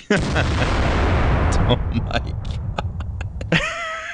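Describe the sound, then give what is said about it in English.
A loud cannon blast sound effect booms right at the start, followed by a long rumbling roar with scattered crackles, and a brief high whine near the end. “As we prepare the snark cannon that I just stole from Jeremy.”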